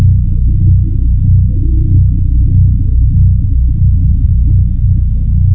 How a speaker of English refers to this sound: you could hear this ship in the background, and what was interesting is the pulse, that deep pulse